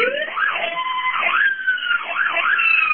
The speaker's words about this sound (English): We're in an ambulance, and Lisa wanted us to turn the siren on for you. Oh, fantastic! We always love hearing a siren.